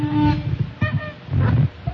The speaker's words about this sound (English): Every time I adjust this microphone, it sounds like I'm locking somebody in the Tower of London.